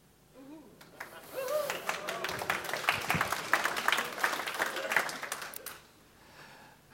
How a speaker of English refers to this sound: That was actually clapping for my incompetence. But quite frankly, I will take it because I am that desperate.